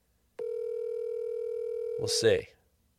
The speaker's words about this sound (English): So let's see if we can give her a call and see what happens. It's ringing.